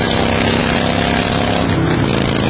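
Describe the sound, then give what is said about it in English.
A loud, steady motorcycle engine drone with heavy rushing wind noise while riding, filling the whole moment with no break or change. “And this is what that same commercial sounds like on your motorcycle.”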